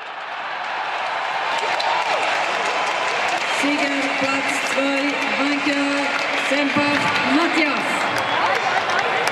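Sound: fans cheering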